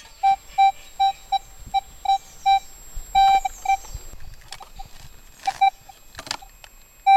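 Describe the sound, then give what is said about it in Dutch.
A metal detector beeps repeatedly in short, steady mid-pitched tones, with a few longer held beeps and some scraping, rustling noises in between. No one speaks. “Nou, dat ging vooral met een hoop gepiep gepaard.”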